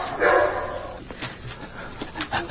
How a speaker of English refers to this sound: There is a dog in the lobby running for mayor of Oakland. Oh, that's Einstein the dog.